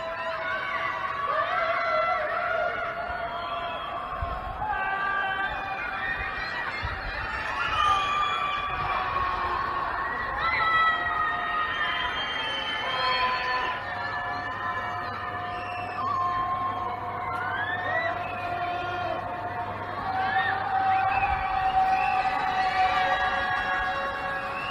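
A chorus of voices from people trapped in high-rise buildings in Shanghai during a COVID lockdown screams and wails without pause, overlapping cries rising and falling like a crowd in distress, steady and echoing with no clear words.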